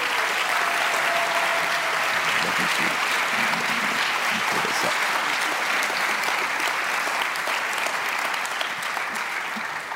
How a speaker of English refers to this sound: I'd love for you to give some applause to the hero in our family, the one who makes it all work.